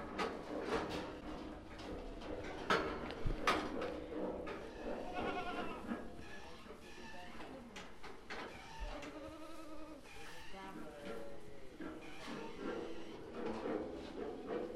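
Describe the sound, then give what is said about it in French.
Ewes bleat repeatedly, several animals overlapping in wavering calls, with steady background noise of a flock and occasional knocks throughout. “Alors l'été, il y a toujours un petit lot de brebis qui restent là sur place, parce qu'il y a ou des agneaux trop petits ou des bêtes trop faibles.”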